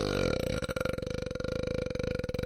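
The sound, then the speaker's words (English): A long, loud burp that rumbles steadily for a couple of seconds with a rough, rattling texture, heard on its own without any talking. “Well, I can see what a burp sounds like.”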